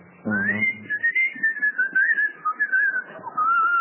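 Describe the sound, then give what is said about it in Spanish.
A person whistles through the lips, imitating a train guard's departure whistle: one long, fairly loud note that wavers and dips in pitch for several seconds after a brief vocal sound at the start. “No, con su silbato, él le indica al maquinista que arranque, que ya subió todo el mundo.”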